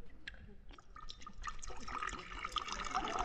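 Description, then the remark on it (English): Liquid glugs and splashes as a short drink is poured from a bottle into a glass, starting with a few scattered drips and building into a steady, filling stream that grows louder over a few seconds. “Now I'll just pour you a short one.”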